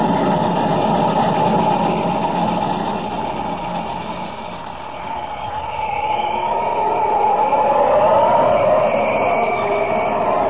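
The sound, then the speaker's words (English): A steam locomotive rumbles steadily over a bridge, a continuous heavy mechanical drone with humming tones that dips slightly midway and swells again toward the end, with no voices. “There's the train ahead. She's practically across.”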